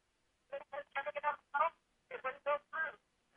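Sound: incoming phone call ringing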